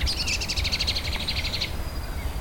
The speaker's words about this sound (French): Ah, la vie est là! Les oiseaux chantent en nombre après la pluie.